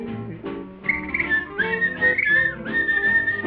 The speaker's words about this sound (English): love to whistle, 'cause it makes me merry, makes me feel so very.